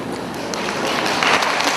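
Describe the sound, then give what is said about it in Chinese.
Steady audience applause during a church sermon, a dense wash of many hands clapping at a fairly loud, even level for about two seconds, with no voices over it. “你不要鼓掌，是给你们自己鼓励。”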